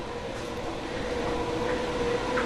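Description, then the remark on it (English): Engines supplying gas to fermenters in a high-pressure laboratory, where yeast is grown, run continuously with a dense, steady mechanical rumble and a faint high whine, holding the same loudness throughout. No one speaks. “And you can probably hear the engines working in here.”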